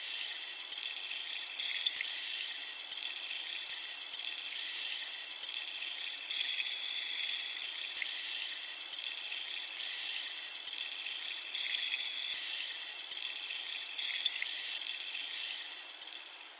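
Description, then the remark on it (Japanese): A steady, hissing fizz of tiny bubbles popping, bright and crackly, holding at an even level for about sixteen seconds before easing slightly at the end. No voices. “シュワシュワと弾ける音、なんだか現実から離れたような感覚になります。”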